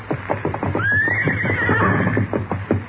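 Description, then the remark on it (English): The horse Silver neighs once in a long, rising then wavering whinny lasting a couple of seconds, over a steady low hum and a series of faint, regular clopping thuds. “Steady, big fellow, while I settle you up.”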